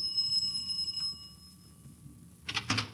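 A doorbell at the front door of a house, rung late at night, almost 11 o'clock, gives a single clear, ringing chime that lingers about a second before fading, followed later by a short burst of muffled clatter; no one speaks.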